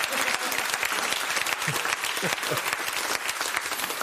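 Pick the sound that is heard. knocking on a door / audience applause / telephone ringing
audience applause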